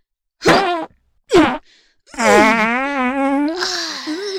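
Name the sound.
three farts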